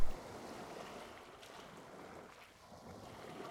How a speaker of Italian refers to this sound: Il mare è calmo. Il catamarano solca le onde dell'Adriatico, lasciando dietro di sé una scia di schiuma bianca e di mistero. Con il vento a favore, la barca procede a gonfie vele in direzione del canale di Otranto.